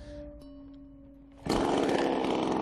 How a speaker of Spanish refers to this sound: Vamos a ver una imagen. Miren la siguiente motosierra.